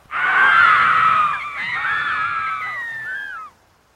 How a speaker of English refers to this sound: The dolphins and the whales scream.